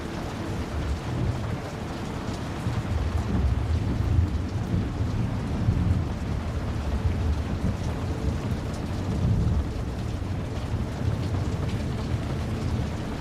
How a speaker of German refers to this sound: Du trittst näher und siehst, wie der Sturm draußen immer weiter zunimmt.